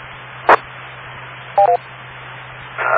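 A radio channel beep tone on channel 8-5 over steady hiss: a short burst, then a quick double beep with clear tonal pitches a second later, and a longer tone rising at the end.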